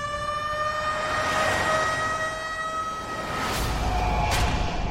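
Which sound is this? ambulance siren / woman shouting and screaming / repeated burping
ambulance siren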